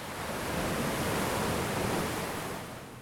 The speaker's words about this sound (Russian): Чем ближе к морю, тем лучше слышно волны, хотя сегодня они небольшие.